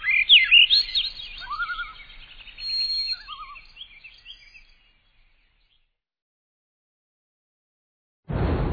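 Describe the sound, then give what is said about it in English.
Birds call in a bright, high-pitched twittering of quick chirps and warbled trills that fade out after about five seconds, in a recording from the Macaulay Library at the Cornell Lab of Ornithology. Silence follows, broken at the very end by an abrupt loud burst. “The sounds of the birds featured on Bird Note come from the Macaulay Library at the Cornell Lab of Ornithology.”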